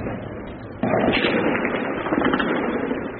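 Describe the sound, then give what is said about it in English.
Dense, crackling gunfire in rapid bursts during violent street clashes in Yemen, heard through a noisy outdoor din that suddenly grows louder partway through, with no clear voices. “Bystanders say gunfire could be heard throughout the night.”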